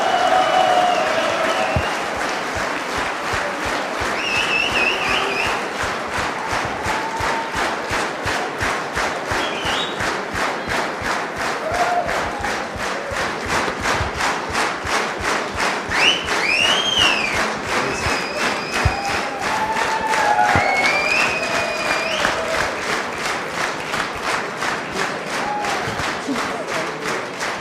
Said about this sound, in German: Ralf, das ist dein Beifall.